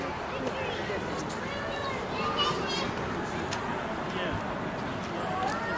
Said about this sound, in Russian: Детская площадка. Скамеечки, навесик.